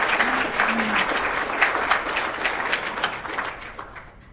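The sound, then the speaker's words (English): A room full of people applauds steadily for several seconds on behalf of absent UC colleagues, a dense, even patter of clapping that holds at a moderate level and tapers slightly toward the end. “We will clap for you in their absence.”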